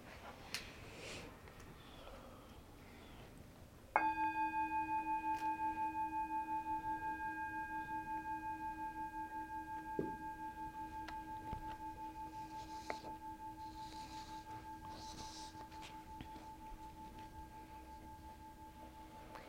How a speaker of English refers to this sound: So Thay says, the bell is the voice of the Buddha calling us back to our home. So we'll listen to the bell.